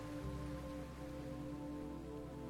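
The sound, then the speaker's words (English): Steady, even wash of ocean surf, a continuous hiss without distinct breaks, blended with a soft sustained tonal hum underneath. No voices are heard. “The sound of the ocean.”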